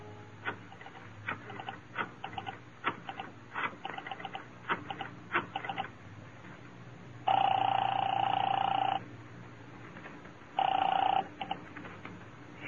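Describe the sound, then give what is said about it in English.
Telephone dialing and ringing on a call from a phone booth to an apartment: quick bursts of clicks from the dial, then a pause and two loud, steady rings of a phone bell, the second shorter, with no voices. “I found a phone booth and called Marty Crane's apartment.”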